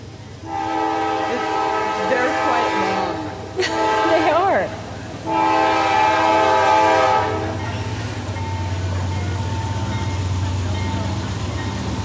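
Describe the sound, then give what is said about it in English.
A train horn blares in long, loud blasts over the steady roar of a passing train, then the rumble fades into a low, continuous rolling drone as the cars go by. “Trains don't make for good radio moments, so we're going to wait until it passes.”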